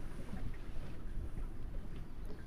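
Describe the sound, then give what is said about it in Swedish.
A sailboat with a single large sail glides out under a steady rush of wind, with low rumbling buffets and soft water sounds, no voices present. “Och vinden bara tar i det enda stora seglet där. Så glider vi ut.”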